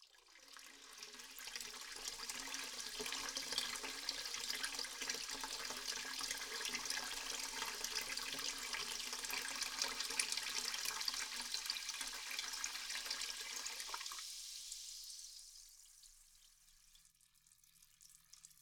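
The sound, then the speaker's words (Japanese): Hot water gushes steadily into a bath on a treatment table being filled for a reclining carbonated bath, a loud, even rushing for about fifteen seconds before it cuts off, leaving quiet with faint trickles. “お湯、入れていきますね。”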